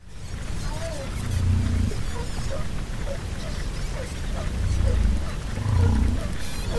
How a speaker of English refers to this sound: The Pacific white-sided dolphins, which we just heard, you'll hear sea lions barking. They bark underwater. You'll hear one other pinniped, which I don't know what it is, and a humpback whale will be grunting in there.